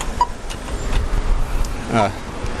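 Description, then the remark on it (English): A steady outdoor rumble of road traffic in Australia with cars passing, a continuous low engine and tyre roar, and a brief voice breaking through near the end. “So you can hear the Australian traffic signs.”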